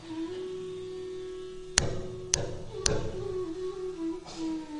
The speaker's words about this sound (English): he came to the palace of Nanda Maharaj and knocked very loudly on the door. Oh Maya, please open the door.